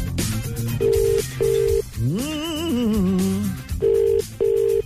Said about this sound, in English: Oh, it's ringing.